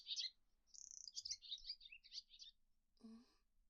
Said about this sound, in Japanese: 材料なら、さっき捕まえてきた。種類はよくわからないが、鳥だ。ほら、息がいいだろ？きっとうまい。